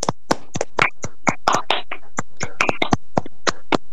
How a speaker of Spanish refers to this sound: Bueno, me gustaría cerrar con un gran aplauso para todos ustedes, chicos. La verdad, unos genios, me conmovieron mucho. Me gustaría que abramos los micrófonos y un gran aplauso para todos ustedes.